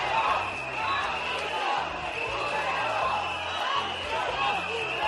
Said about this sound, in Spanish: Pues los catalanes que defienden la Constitución y la idea de España, convocados por la plataforma de Tabárnia, aplaudieron en la calle la vuelta del rey a Cataluña y gritaron eso de Puigdemont a prisión.